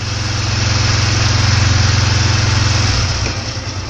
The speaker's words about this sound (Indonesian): Belum lagi mereka melanjutkan pembicaraan, tiba-tiba terdengar suara sepeda motor mendekati tempat mereka duduk.